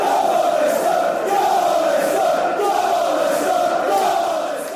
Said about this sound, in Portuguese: Vamos, Leicester, gritam os adeptos da equipa.